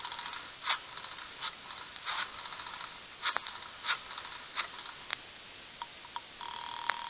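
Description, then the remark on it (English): A telephone being dialed on an outside line, heard over a thin, narrow line: a run of sharp clicks and short tone bursts at uneven intervals, ending in a steady tone. No one speaks. “Give me an outside line. Here's the phone”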